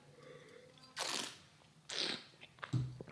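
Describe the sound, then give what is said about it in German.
Two breathy, hissing slurps of wine, sipped right in front of the microphone, about a second apart, then a short low swallow-like gulp. Nobody speaks. “Spare ich euch den Einspieler mit dem Schlürfen, sondern trinke einfach hier jetzt vorm Mikrofon.”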